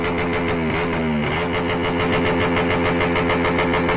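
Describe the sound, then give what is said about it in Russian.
A loud small moped engine blats close up through its exhaust, the pitch dipping and rising in a brief rev before settling into a steady, buzzing, pulsing drone, as an Indonesian police officer has the moped's rider listen to the exhaust at very close range. No voices. “Предлагает водителю громкого мопеда послушать этот выхлоп на максимально близком расстоянии от самого выхлопа.”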